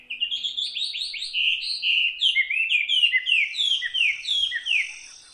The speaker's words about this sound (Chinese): 一大清早，天空渐渐明亮了起来，鸟儿们此起彼落的叫声，那是森林里才有的天然闹钟。这些声音唤醒了森林的动物与植物们。